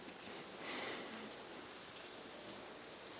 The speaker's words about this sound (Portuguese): Isn't it pretty cozy with the rain? Não é tão aconchegante com a chuva?